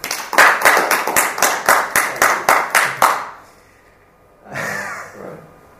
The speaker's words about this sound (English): Thank you. Welcome. Big round of applause.